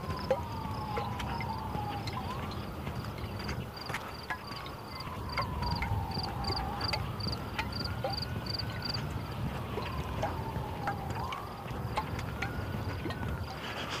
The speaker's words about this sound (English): Some kind of conflagration going. Sirens going off all over the place here.